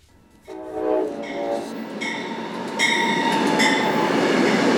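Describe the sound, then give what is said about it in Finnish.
An Amtrak passenger train in the United States sounds its horn, then rolls on with a loud, steady rumble on the rails, high metallic wheel squeals cutting in and out. No one speaks. “Yhdysvalloissa kaikki tietävät Amtrakin, mutta vain harva matkustaa junalla.”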